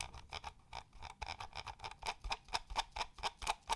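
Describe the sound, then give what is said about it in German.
The scroll wheel of a Corsair Seima V2 Pro Ultralight Wireless mouse turns with a quick run of light, crisp ratcheting ticks, the clicks bunching faster toward the end, with no voices. “Jetzt drehe ich es.”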